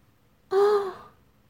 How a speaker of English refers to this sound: Think of her frightened, aroused, nervous little gasp.